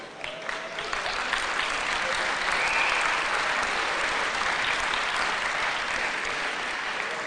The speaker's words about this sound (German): Gut, weiß nicht, was zu klatschen gibt, aber das war Geldwäsche damals.